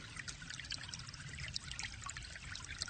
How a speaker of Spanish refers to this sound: Imagínate que en la habitación empieza a brotar agua templada. Primero te va cubriendo los pies y los tobillos.